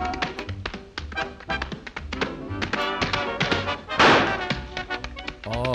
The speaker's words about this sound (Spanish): Eso que ha sonado es un petardo que llevaba encima. Está en el vídeo. Iba tirando petardos al suelo. Y tirado rítmicamente, que no lo ha tirado en cualquier momento.